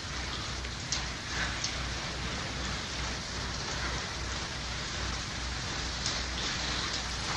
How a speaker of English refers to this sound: Just a little rain. We can use it.